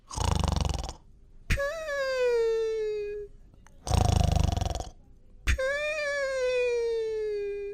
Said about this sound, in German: der doch tatsächlich eingeschlafen ist und sogar ein bisschen schnarcht.